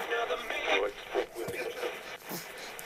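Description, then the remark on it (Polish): Steady hiss of static from a radio switched on with no station tuned, used as white noise to calm a baby, a wide rushing noise that swells and dips as the dial moves, with brief garbled fragments breaking through. “To jest biały szum, który przypomina dziecku okres płodowy.”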